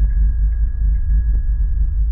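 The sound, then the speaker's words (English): A bicycle bell in a NASA website simulation of how things would sound on Mars, a normal ring first and then the Mars version: a muffled, dull, low throbbing hum with a faint thin tone lingering steadily above it, with no voices. “Oh, the first one, you know, was normal bell and then Mars bell?”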